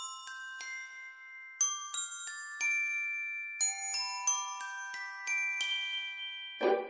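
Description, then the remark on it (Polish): A small tin bell rings out alone in a string of bright, clear strikes at shifting pitches, each note lingering and overlapping the next, ending with a brief rattling clatter. “Czy tak jak Piotruś Pan o blaszanym dzwoneczku po prostu zapomniałeś? Pamiętam, pamiętam, ale będę ci wdzięczny, gdy trochę mi je po swojemu przypomnisz i zadzwonisz.”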